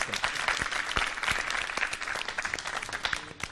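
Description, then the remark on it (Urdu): A crowd claps loudly and steadily to encourage contestants in a game of choosing among spoons and glasses. A dense patter of many hands with sharp individual claps standing out, sustained at an even level throughout without voices. “ان کی بھی فی الحال حوصلہ افزائی ہو جائے، دیکھتے ہیں صحیح رزلٹ کیا ہے زوردار تالیوں کے ذریعے.”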